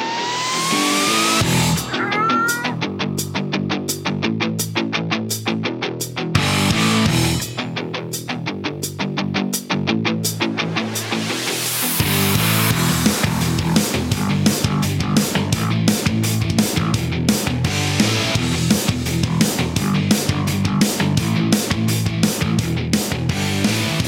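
A lively cat show band jingle, a band, with meowing, steady punchy drum hits and bright tones, growing fuller and denser about halfway through, played loud with no talking.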